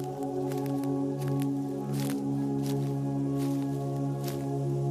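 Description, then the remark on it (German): Slow, soft squelching footsteps on springy forest ground, about five muffled steps at an unhurried pace, heard over a steady, sustained low humming drone. “Langsam gehst du los. Der Boden federt unter deinen Schritten.”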